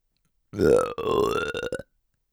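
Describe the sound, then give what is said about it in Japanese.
A long, loud, deep burp made right by the listener's ear, drawn out for over a second with a brief catch midway and a croaky, sputtering finish, heard on its own. “ゲップ、いっぱいかけちゃうよ。”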